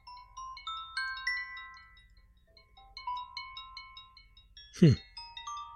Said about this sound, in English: Yeah, that can wake you up in the mornings. Yeah. Well, it's your ringtone, though. That's somebody calling you.